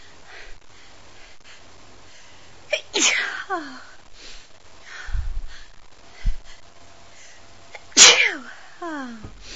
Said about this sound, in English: What if you put your finger under your mistress' nose and see if you can stop me from sneezing like a good slave?